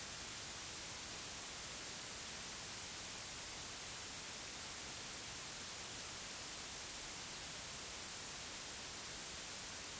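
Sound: white noise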